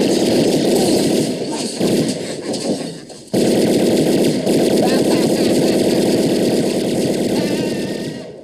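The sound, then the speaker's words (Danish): Rapid, sustained bursts of tommy gun fire rattle on loudly for several seconds with a dense, percussive chatter, briefly cutting out before resuming and slowly tapering off. “Hey, I'm gonna give you to the count of ten to get your ugly, yellow, no good keister off my property before I pump your guts full of lead.”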